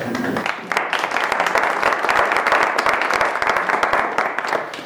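An audience at Holden claps steadily to welcome a visiting speaker, dense overlapping hand claps forming a loud, sustained wash of applause that holds for several seconds without voices.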